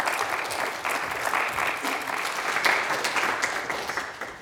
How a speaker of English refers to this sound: Big round of applause for our volunteers. Thank you.